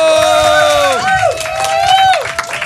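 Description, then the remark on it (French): A crowd cheers and claps, with long, loud whooping voices that hold a pitch and then slide downward, over a steady wash of applause. “On peut les applaudir et du coup, voilà, vous pouvez...”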